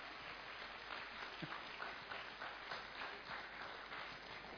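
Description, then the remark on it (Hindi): Sustained audience applause thanking a Russian national singer, a dense wash of many hands clapping steadily throughout, moderately loud and without any speech over it. “जोरदार तालियों के साथ बहुत बहुत बहुत धन्यवाद।”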